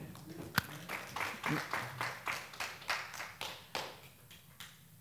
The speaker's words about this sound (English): Clap your hands if you enjoyed this teaching.